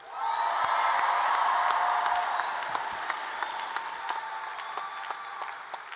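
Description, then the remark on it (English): An audience at a youth poetry event in Portland bursts into sustained applause with scattered cheers and whoops for a poet after the judges' scores are read. The applause is loud at first and then tapers gradually as the clapping continues over six seconds. “Applaud the poet.”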